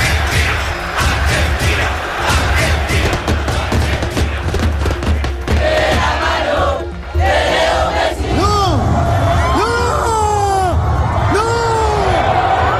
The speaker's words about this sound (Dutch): De wanhopige schreeuw aan het einde is van mensen die schrokken toen 2 mannen vanaf een viaduct in de Argentijnse spelersbus probeerden te springen.